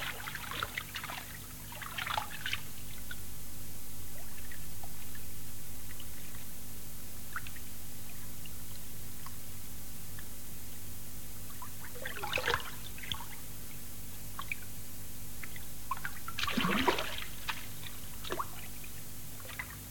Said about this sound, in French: Il s'ancre là à l'image, puisque donc le son devient synchrone avec les gestes, et il déclenche le bruit de la rivière, comme je vais vous le faire entendre maintenant.